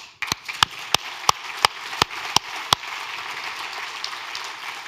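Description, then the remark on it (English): An audience at a conference applauds the streaming team, a broad wash of clapping with several sharp, loud claps punctuating the first few seconds before it settles into steady crowd applause. “So again, big round of applause for the streaming.”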